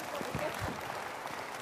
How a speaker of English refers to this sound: But it is a good time to give a round of applause to our actors. Thanks, guys.